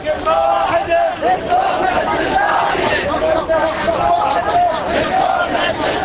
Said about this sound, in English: Huge crowds of demonstrators marched to Baghdad's Mustansiriya University, waving flags and banners, chanting slogans like "Yes to Unity, Yes to Elections," and loudly voicing their support for Ayatollah Ali al-Sistani.